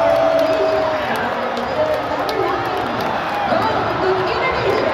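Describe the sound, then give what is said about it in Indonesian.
A crowd of 16,000 spectators roars steadily at Manahan Stadium on a Saturday night, cheering goals during an Indonesia versus Chinese Taipei U23 Asian Cup qualifier: a dense wash of shouting and cheering voices that stays loud and constant throughout without a clear single burst. “Keriuhan teriakan gol menggema berulang kali di antara 16.000 penonton yang memadati Stadion Manahan Sabtu malam”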